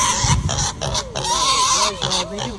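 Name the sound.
pigs oinking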